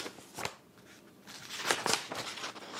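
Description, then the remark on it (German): Pages of paper archive files about Martha Händler being leafed through, a few crisp rustling flicks and swishes, some louder than others, with no voices. “blättert in Archivakten, die sie über Martha Händler gefunden hat.”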